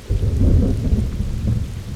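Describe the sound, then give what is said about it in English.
Heavy, steady rain pours down while deep, rolling thunder rumbles, filling the whole stretch with a dense, low roar and no voices; rain that started falling during a hike on a trail. “The next day, I had hiked for a few hours when it started to rain.”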